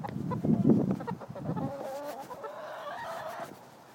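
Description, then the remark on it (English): Several chickens cluck and warble in the morning, a busy overlapping chorus that starts with a dense burst of low clucks and drifts into higher, drawn-out trilling calls before fading. “Good morning, chickens.”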